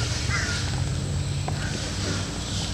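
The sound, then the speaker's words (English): Birds call in the background over a steady low rumble of outdoor ambience, with a few short bright calls, including a crow-like caw, standing out above the noise. “But this is what most of the people really love here, is listening to all those birds in the background and everything.”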